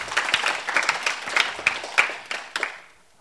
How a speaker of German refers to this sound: Danke euch dafür, dass ihr das tut. Ihr dürft gerne einen Applaus geben.